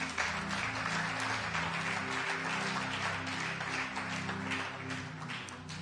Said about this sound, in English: Clap your hands together for Jesus.